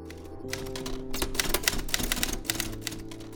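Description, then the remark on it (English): Rapid, irregular mechanical clacking of typewriter keys, fairly loud, with a steady hum underneath and no voices, as a 93-year-old woman types work for the Gazette newspaper. “She uses a typewriter for most of her work.”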